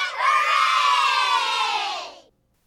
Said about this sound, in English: a great multitude shouts, celebrating God's reign.